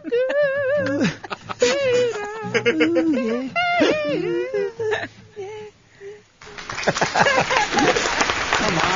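High, wavering vocal sounds fill the first several seconds, then a live audience breaks into loud, dense applause that carries through to the end.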